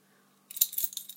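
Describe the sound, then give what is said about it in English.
Bright metallic jingling of keys starts abruptly about halfway through and rattles on in quick, irregular clinks, fairly loud, with no voices. “Where are my keys?”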